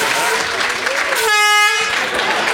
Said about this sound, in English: could you hit the air horn?